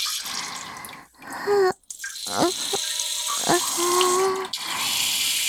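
A steady, hissing stream of liquid splashes continuously for several seconds, with brief pitched vocal sounds rising and sliding over it and a couple of short breaks in the flow.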